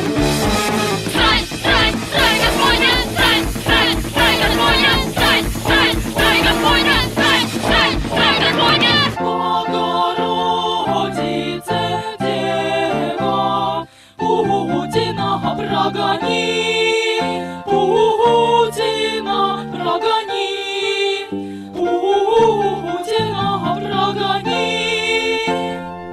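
Loud punk rock with female vocals sung in Russian: a dense, distorted blast of guitars and drums opens, then gives way to a cleaner, more melodic stretch with sustained singing.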